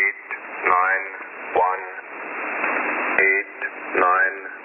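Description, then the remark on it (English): A shortwave numbers station broadcast: a thin, band-limited voice reads out short bursts, buried in steady hissing static and crackle that fills the gaps between them. “Number stations have been around since the First World War.”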